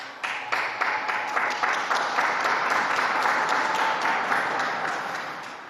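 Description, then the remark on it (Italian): Sustained applause from a large crowd for the young Portuguese who handed over the cross, a dense steady patter of many hands clapping for several seconds, swelling slightly and then easing off toward the end. “E anche un applauso ai giovani portoghesi che hanno consegnato la croce.”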